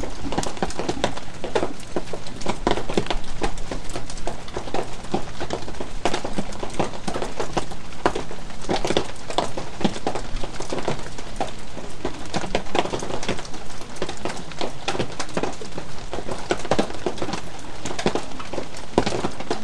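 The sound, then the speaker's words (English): Steady rain falls outside, recorded through a window with a plastic greenhouse outside. It is a dense, continuous patter of drops with sharper taps scattered through it, even in loudness from start to finish and with no voices. “There we go, some rain for you.”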